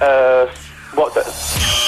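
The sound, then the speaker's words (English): A police siren, played as a sound clue in a quiz, blares briefly as a loud, steady, buzzy tone for about half a second, then cuts off as voices are heard talking. “That was siren. That's what the police uses to get you out of the way.”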